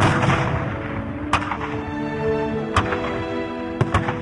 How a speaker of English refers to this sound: Then from each black, accursed mouth, the cannon thundered in the south. And with the sound, the carols drowned of peace on earth, goodwill to men.